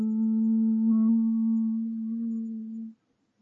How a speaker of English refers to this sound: John and Mary looked at the spaceship. Now there was a humming noise.